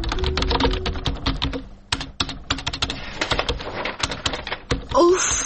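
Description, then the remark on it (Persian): Rapid clicking of a computer keyboard, keys tapped in quick irregular bursts with a short pause midway, and a faint bird-like sound near the end. “تایپینگ هم از یک هفته مانده، بیخی دل ما تنگ سا.”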